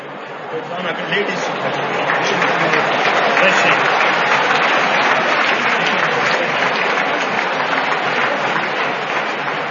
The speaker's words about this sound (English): All Russians are very happy right now. Right over there, the place, the devotees with the raised hands who are clapping, they are from Russia.